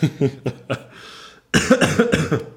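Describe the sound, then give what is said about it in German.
A person coughs in a series of short, harsh bursts, pauses briefly with a faint breath, then breaks into a louder fit of rough coughs. “Entschuldige, jetzt hätte ich mal husten müssen.”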